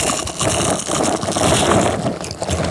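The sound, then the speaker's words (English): Crunchy biting and chewing into a sandwich during a lunch break, a dense crackling crunch that carries on steadily for a few seconds at moderate loudness, with no one speaking. “All right, I want y'all to hear this crunch.”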